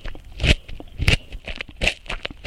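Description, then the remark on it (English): Someone bites and chews a crunchy carrot, producing a rapid series of loud, crisp crunches with a few stronger snaps standing out. No one speaks. “And this is a crunchy carrot.”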